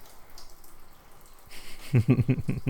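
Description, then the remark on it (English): Water starts running partway through, a steady hiss of spray that turns into a rhythmic, pulsing splatter, like a shower hitting a surface. “I really think a rain shower would be the best, just where it comes down and everywhere, so there's no hot zone, no cold zone, and we can both enjoy the shower together.”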